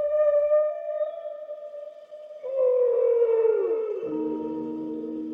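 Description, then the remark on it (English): A long, mournful whale call rings out with rich harmonic overtones, holding steady before sliding downward into a lower, groaning moan. It is fairly loud and continuous, with no voices. “And that they had to grab the longest film music they could find in the studio, which was some kind of whale song.”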